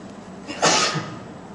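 A single sharp, loud sneeze bursts out, with a short breathy intake just before and a quick fade afterward; no talking.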